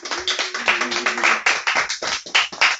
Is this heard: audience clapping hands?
yes